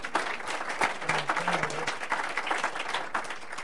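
A crowd claps steadily for a few seconds, a dense, even patter of many hands at a fairly loud level with no one speaking over it.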